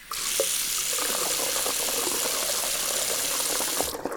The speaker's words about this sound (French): La prochaine fois que vous ouvrirez le robinet de votre cuisine, pensez à Robin le mouton.